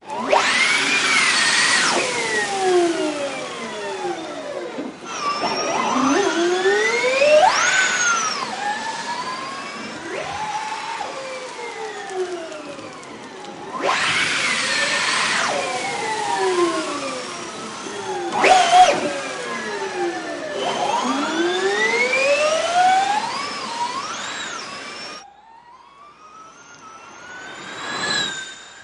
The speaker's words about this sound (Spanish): Y voy a dejar un pequeño lapso, unos segundos, para que ustedes escuchen cómo se oyen los motores de los vehículos de la Fórmula E.